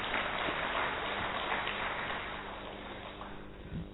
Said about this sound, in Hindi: तो एक बार जोरदार तालियां।